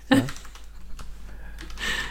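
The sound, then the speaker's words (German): Keyboard typing: a quick burst of clicky keystrokes at the start, scattered individual key taps through the middle, and another flurry of clacking near the end, with no voices. “Ich wollte nur demonstrieren, wie toll meine Tastatur klingt.”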